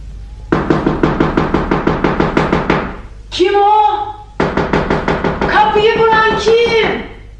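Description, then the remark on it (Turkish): Loud, rapid knocking on a house door in two long bursts, broken by a short pause where a voice calls out; the second burst continues under urgent, raised speech. “Açar mısınız kapıyı?”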